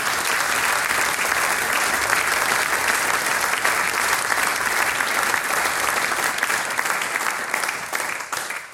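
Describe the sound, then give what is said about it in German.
Sustained applause from a sizable audience, given in thanks to the mayor, Robert Hammer, and an organiser: a dense, steady clatter of many hands clapping at once, fairly loud, holding strong before thinning slightly toward the end. “Das ist euer Applaus.”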